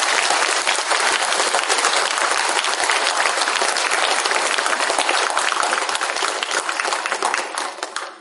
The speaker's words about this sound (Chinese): 所以也在借大家的尊贵的手，再次给老和尚一个感恩的掌声。